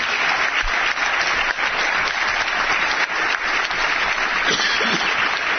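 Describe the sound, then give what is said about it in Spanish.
Sustained applause from an audience at the Empresa Digitala 2005 award, greeting the winning company Servicios y Soluciones Integrales Urbanos Sociedad Limitada: a dense, steady clatter of many hands clapping at once, loud, continuing without a break and with no voices over it. “Esos aplausos, claro que sí.”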